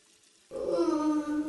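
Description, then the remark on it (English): After a brief hush, ice-cold water suddenly starts running into a bath, drawn for a quick bath before bed: a steady gushing with a loud, droning pipe whine riding on top. No one speaks. “I'm gonna take a quick bath and then go to bed.”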